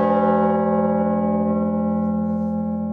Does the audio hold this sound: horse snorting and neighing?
no